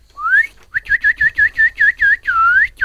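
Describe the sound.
A person whistles in imitation of a bird, sounding like a goldfinch: a rising glide, then a steady run of about eight short, bright chirping notes, ending on one longer warbled note. No one speaks.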